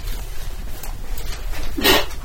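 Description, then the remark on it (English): A single sharp, breathy sneeze bursts out near the end, loud and noisy across a wide range, following a stretch of low background rumble with no talking. “Bless you.”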